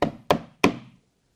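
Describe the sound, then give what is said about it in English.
Three firm knocks on a wooden door, evenly spaced about a third of a second apart, each with a short resonant ring. Clear, with no voices and silence after. “behold, I stand at the door of your soul and I keep on knocking.”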